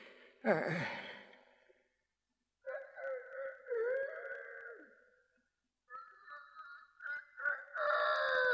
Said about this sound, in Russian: Ой. Что за петух об эту пору?